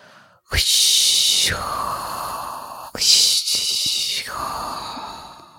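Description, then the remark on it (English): A voice imitates ocean waves crashing with two long, breathy whooshing exhales, each a hissy surge that rises then trails off into a lower rasp, with a brief pause between them. “Can I do the wave sound? Yeah, do the wave sound, please.”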